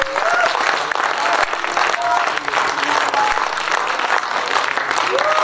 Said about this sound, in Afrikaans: as jy dit ervaar, stel het op en gee hom een hande klap, hy skakel nou, daar die skakelaar aan.